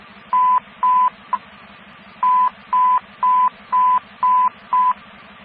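Radio dispatch alert tones: a series of steady, mid-pitched beeps in quick rhythm, two beeps and a brief blip, a pause, then six more, over a low, buzzing radio hum.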